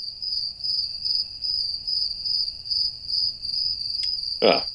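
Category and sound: insect, crickets chirping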